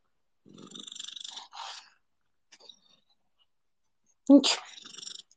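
A female cat purring into the microphone makes a short rough, pulsing rumble and a brief murmur, then after a pause a sudden loud snuffling burst with soft shuffling sounds.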